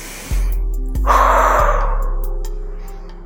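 A single deep, drawn-out breath taken during a breathing exercise, rushing in loudly and then slowly tapering off over a couple of seconds, with a faint low hum beneath it.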